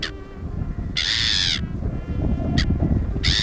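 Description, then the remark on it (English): A gray-hooded gull perched on the Coney Island boardwalk on a sweltering August afternoon gives harsh, raspy calls: a long drawn-out screech between short clipped squawks, loud over a steady low rumble of background noise. “But bird enthusiasts could tell this was a gray-hooded gull that must have flown in all the way”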